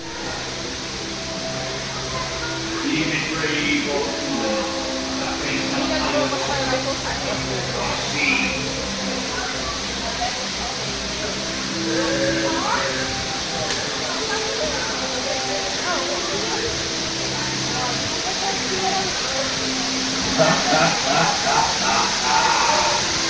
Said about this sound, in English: here is a ride-through on Walt Disney World's Pirates of the Caribbean.